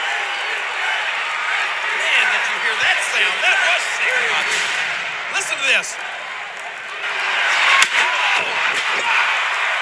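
In a wrestling match, a single sharp crack as Michaels strikes heavyweight champion Triple H in the face with a steel chair cuts through near the end, over the constant roar of a large, noisy crowd.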